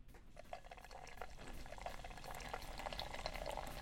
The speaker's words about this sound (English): And let's do a little pour. 45 degrees.